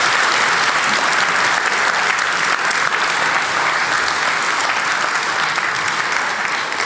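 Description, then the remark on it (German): Sustained audience applause for the content team at the GPN event fills the whole stretch, a dense, steady wash of many hands clapping at an even loudness with no voices standing out. “Applaus für das Content-Team bitte.”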